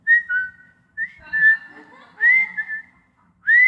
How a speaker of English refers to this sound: She has a very distinct whistle, and I don't think it's a, yes, thank you very much for doing it. I recognize that that's her whistle. So when I'm in a store several aisles away from her, I hear her.